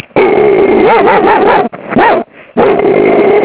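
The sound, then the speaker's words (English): A human voice mimics a dog, producing a run of loud barks and whiny yips in a few sustained bursts separated by short pauses. “maybe I could just say a few words in doggy in here. You can bark along with me if you want.”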